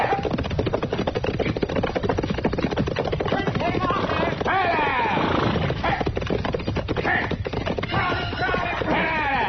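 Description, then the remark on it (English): A runaway horse gallops hard up Front Street, its rapid, pounding hoofbeats loud in a dense, unbroken rhythm, with a brief shout or whinny rising partway through. “Well, somebody's sure riding up Front Street awful fast, ain't they? Yeah. That's a runaway horse,”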